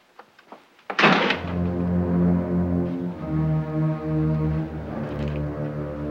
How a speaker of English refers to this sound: Glancing over his shoulder once more, Norman returns to the bedroom, shuts the door, and switches on the light.